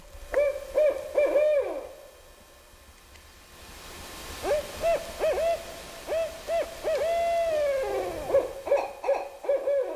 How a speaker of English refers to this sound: We're going to play just the audio of the barred owl. I've got a barred owl in the woods behind my house, and sometimes this is what I hear at night.